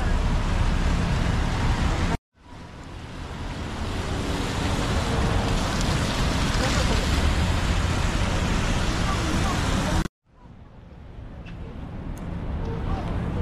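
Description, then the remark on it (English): Steady, dense hiss of rain falling on a city street in winter, mixed with the rumble of passing traffic, heard while walking across the street at a walk signal; broken twice by abrupt cuts before the wash of noise swells back up. “Doesn't feel very much like winter out here right now with the rain.”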